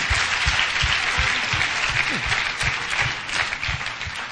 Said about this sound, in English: Clap for him for developing those aspects.